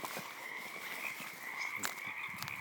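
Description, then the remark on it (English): A dense chorus of frogs croaking continuously, with a steady high trilling band and scattered louder calls popping out, filling the night air at moderate volume with no voices. “The frogs are happy. Yes. At nighttime, it is almost deafening.”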